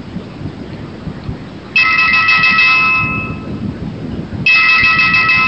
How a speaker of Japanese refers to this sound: 実際にご自宅に電話がかかってきたつもりで聞いてみてください。